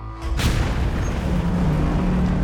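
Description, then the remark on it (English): The steel hull of the ship Exxon Valdez slams into Bly Reef just after midnight on March 24th with one loud, heavy boom, followed by a continuous low, grinding rumble of steel scraping the rocky seabed that holds steady to the end. No one speaks. “At 4 minutes past midnight on March 24th, the steel hull of the Exxon Valdez slammed into Bly Reef.”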